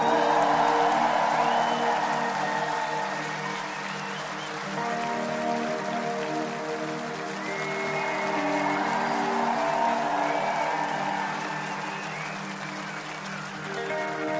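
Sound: audience applause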